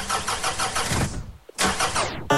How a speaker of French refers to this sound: Si la voiture démarre, je fais le plein de la caisse.